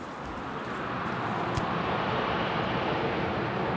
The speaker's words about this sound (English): Let's hear these fucking airplanes. Listen to this.